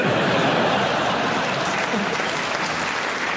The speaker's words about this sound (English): You're clapping because you hope that's the end. Don't worry, nearly halfway through now.